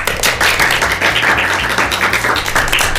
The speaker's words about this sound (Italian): Facciamo un applausino ai dinamici. Un applausino a tutti voi piccoli DJ. Oh, un applausino a Radio Dinamo e un applausino al Dinamo Cap. E allora basta, applauson.